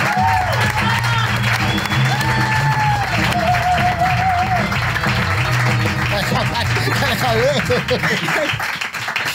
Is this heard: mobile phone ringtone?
no